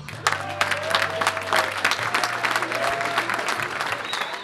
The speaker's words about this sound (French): Sous un tonnerre d'applaudissements, l'équipe 4B.